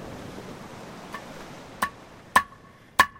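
A man hammers a new unak, or seal hook: three sharp metallic hammer blows about half a second apart, each leaving a brief bright ring, after a faint softer tap over low background noise.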